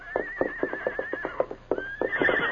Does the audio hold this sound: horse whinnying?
yes